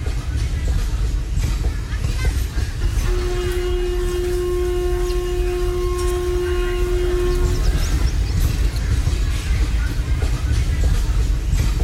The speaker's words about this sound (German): Und ich habe zu der gleichen Zeit, wo ich die Aufnahme gemacht habe, auch eine Audioaufnahme gemacht, und in der Audioaufnahme hört man dann, wie der Zug dann von dem Bahnhof dann wegrollt.